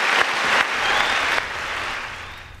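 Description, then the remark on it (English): An audience claps and cheers for the book America Under Attack in a dense, steady burst of applause that holds strong for over a second, then eases somewhat and continues more softly to the end. No one speaks over it. “Some clapping, some cheering for the book.”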